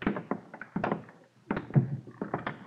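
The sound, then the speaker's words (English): A door opens with a series of solid thunks and clunks spread over a few seconds, a short pause in the middle, and no voices. “Open the door. Down the stairs.”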